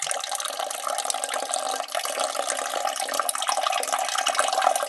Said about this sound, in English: I could, of course, fake it with some kind of sound effect. I wonder if I could just type that in. Peeing noise. Is that a thing? Oh my God, it is. Just totally a thing. Who knew that that would be a total thing? Let's listen.